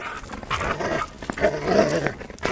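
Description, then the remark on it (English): Continuous dog sounds from a dog being walked: eager panting and whining mixed with short growly huffs, as if the dog is excited and straining on a leash, with no one talking. “I walk the dog.”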